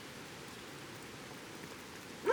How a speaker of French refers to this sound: Ambiance extérieure jour sous la pluie dans les montagnes. Devant chez le vieux gars sur son perron.